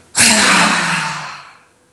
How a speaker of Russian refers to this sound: Сделаем вместе глубокий вдох. Задержим дыхание, собираем все мысли, эмоции, со звуком «ха» отпускаем.